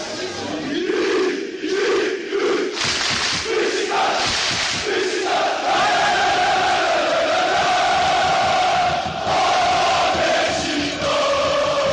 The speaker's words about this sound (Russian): Так звучит стамбульский Водафон Парк. Здесь играет футбольный клуб «Бешикташ». Его болельщики считаются самыми громкими живыми существами на планете.